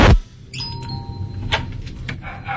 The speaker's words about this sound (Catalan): Vinga, truquem a la porta.